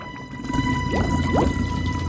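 food or drink, bubbling

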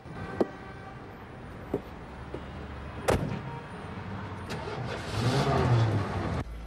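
vehicle, car door closing

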